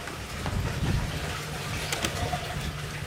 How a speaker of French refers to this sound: On entend le bruit de l'eau. C'est le prélèvement finalement qui est fait au niveau du Rhône.